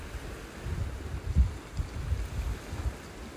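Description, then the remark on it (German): Low, rolling water noise surges and recedes in repeated swells, like waves washing in, with a steady windy hiss over it and no voices. “Stelle dir vor, du wärst am Meer und so hörst du das Rauschen der Wellen.”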